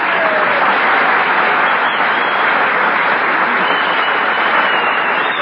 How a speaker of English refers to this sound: Oh, you hear that whistling? Sounds like Whistler's brother out there.